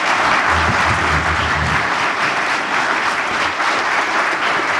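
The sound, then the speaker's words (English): Steady applause from an audience for the panelists at a mayoral candidates' media debate in Wausau, Wisconsin, many hands clapping in a dense, continuous wash that holds at an even loudness throughout, with a brief low murmur near the start. “And a round of applause, please, for our panelists”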